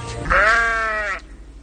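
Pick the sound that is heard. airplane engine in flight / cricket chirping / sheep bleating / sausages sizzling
sheep bleating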